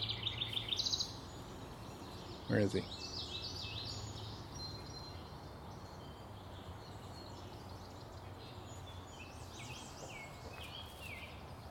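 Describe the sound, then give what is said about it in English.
Sharp, repeated calls from a single bird burst out at the start, then scattered chirps continue over a steady rush of flowing water by a creek. A person briefly speaks once early on. “I just started to record again because this one bird, he sounds like he's just not happy with me being here.”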